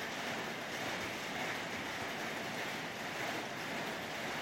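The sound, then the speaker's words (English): Steady rain patters on the roof at Kununukun Church, heard from the fellowship area. It is a dense, even hiss with a fine granular texture that holds at a constant loudness throughout, with no voices. “Near the rain on the roof.”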